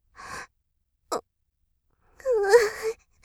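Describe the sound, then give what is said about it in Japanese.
A woman cries from pain in breathy sobs: a short shaky breath, a brief catch, then a longer wavering moan that rises and falls in pitch before trailing off. No words are spoken. “私、泣いてる。”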